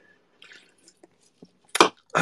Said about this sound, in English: I have to like drink water.